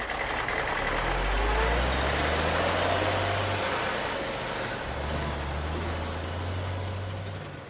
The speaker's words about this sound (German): Wenig später saßen alle im Feuerwehrauto und Flo startete seinen Motor.